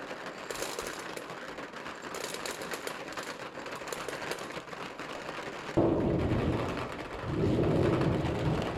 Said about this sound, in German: Oh, regnet es ordentlich. Jetzt hagelt es auch noch.